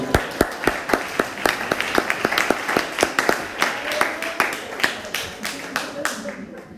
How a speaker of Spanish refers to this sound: Dale aplauso a Cristo.